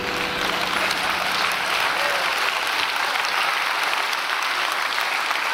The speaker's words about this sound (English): They're clapping, but that was for you, not for the song.